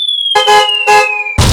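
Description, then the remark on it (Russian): A jeep falling from the 16th floor onto an old woman: a long whistle glides slowly downward in pitch, broken by two loud rough bursts, then ends abruptly in a heavy, noisy crash. “С 16-го этажа на старушку падает джип.”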